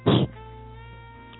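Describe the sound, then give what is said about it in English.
A single sharp, breathy sneeze bursts out at the start, then fades into a soft, steady background of sustained musical tones. “Bless you.”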